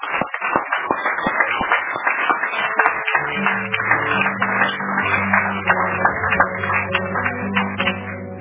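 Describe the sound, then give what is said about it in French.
A crowd applauds steadily after a religious teaching, dense overlapping claps filling the whole stretch, while sustained low tones, like held keyboard chords, come in partway through beneath the clapping. “Applaudissons d'abord pour les.”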